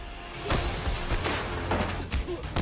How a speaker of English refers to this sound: Everything sounds like a punch to the midsection. Even punches to the face. And bats to the head. I'm sorry, we couldn't pay all these actors and get more than one sound effect.